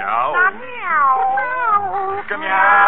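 A string of loud, close, drawn-out cat meows with sliding, wavering pitch, running almost continuously with only brief dips between cries.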